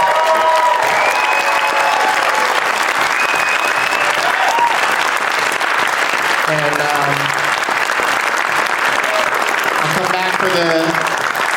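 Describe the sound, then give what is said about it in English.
Sustained applause from a large stand-up comedy audience in Traverse City on a cold night, a dense steady clatter of clapping filling the whole clip, with scattered cheers and voices rising through it near the middle and end. “You guys have been such a terrific crowd.”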